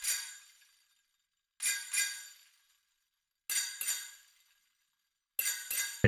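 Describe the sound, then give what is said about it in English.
Bells played as part of a Christmas song: bright, high-pitched bells chime in short pairs of strikes, each ringing out and fading before the next, with a dull thump at the very end and no voices. “You gotta have bells in a Christmas song. All right, here we go. I'll play the bells.”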